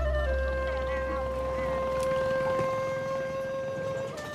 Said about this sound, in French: Alors pour aller explorer ces villes flottantes sur le Tonlé Sap, il faut prendre un petit bateau sur le bord du lac et il va emprunter des rues, des véritables artères nautiques entre les maisons flottantes.